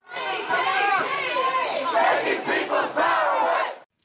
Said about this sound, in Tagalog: Sa Kuala Lumpur, libu-libong katao ang mga may bitbit na placard at sumisigaw. Natatakot na ang Trans-Pacific Partnership Agreement o TPP ay makakasira sa ekonomiya ng Malaysia at lilika ng mas marami pang kawalan ng hanap buhay.